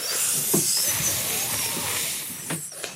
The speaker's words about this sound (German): Auch in der nächsten Ecke hört man zuerst ein Geräusch, bevor man das Tier sieht. Das Zischen einer Schlange.